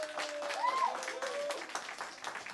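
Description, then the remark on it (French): A live TV show audience applauds itself at the host's request, a dense wash of clapping at steady volume, with a few whoops and cheers rising over it. “Est-ce que vous pouvez vous applaudir, s'il vous plaît ?”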